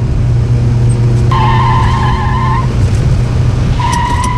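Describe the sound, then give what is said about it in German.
A car driving far too fast on a winding road down to the coast roars steadily while the tires let out a long, high-pitched screech, then a second squeal begins as it skids through a curve. “Achtung, Kurve! Bist du wahnsinnig? Du fährst viel zu schnell.”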